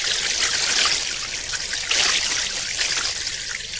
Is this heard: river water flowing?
yes